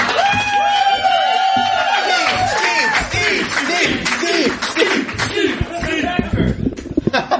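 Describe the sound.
An audience votes by applause, a loud, sustained burst of clapping with cheering, many voices whooping and shouting over dense, steady clapping for several seconds.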